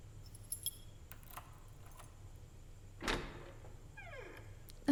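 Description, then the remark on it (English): Keys jangle briefly, then a lock clunks and a door swings open with a low thud and a faint creak, with no talking. “Can you open the door, please?”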